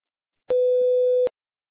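A single steady electronic beep, a pure mid-pitched tone held for just under a second with abrupt start and stop, sounding alone against silence: a voicemail box prompt signalling the caller to speak and leave a message.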